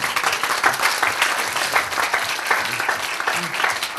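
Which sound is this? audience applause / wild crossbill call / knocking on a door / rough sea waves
audience applause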